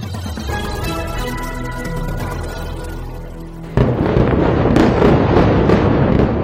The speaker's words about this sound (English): Huge explosion shook the sky in the vicinity of Beirut's main airport in the early hours of Friday.